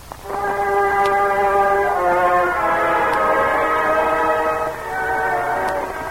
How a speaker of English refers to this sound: Late that November afternoon, the train pulled into the Pennsylvania town.